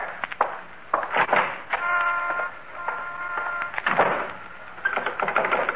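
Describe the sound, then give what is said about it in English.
A front door being locked: a quick run of sharp metallic clicks and rattles, then a brief grinding scrape and a few more clacks, with no voices. “And now the front door.”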